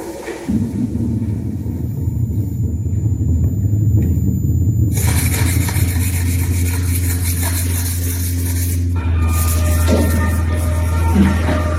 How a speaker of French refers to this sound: j'ai créé des affiches sur lesquelles, en touchant, on peut entendre du son du métro parisien sans voir du graffiti, sans voir un métro, mais tout ça en prenant des empreintes du métro parisien, voilà. On a un exemple de ce que ça donne, écoutez.